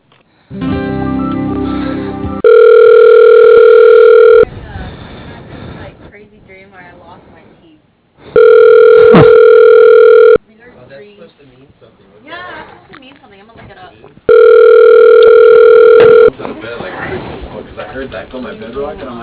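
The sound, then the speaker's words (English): A steady telephone tone sounds three times, each about two seconds long, loud and even-pitched, while a caller is on hold at Phoenix Global Partners. Muffled, phone-quality voices or hold audio fill the gaps between the tones. “Hold the line for me, okay?”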